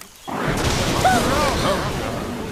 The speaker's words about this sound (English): That sounded close. It certainly did. Fire! It must have been the lightning.